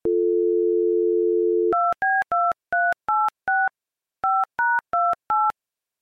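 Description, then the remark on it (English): A steady telephone dial tone hums for a couple of seconds, then gives way to touch-tone dialing as a phone call to a man is placed: six quick beeps, a short pause, and four more, clear with no talking. “So let's go ahead and get him on the phone now.”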